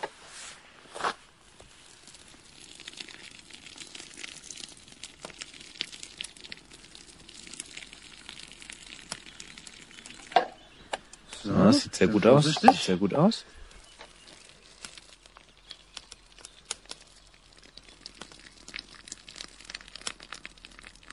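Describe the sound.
Pasta water is poured out of a pot in a dense, splashing rush lasting about two seconds, standing out loudly from scattered quieter clatter, with a voice speaking briefly afterward.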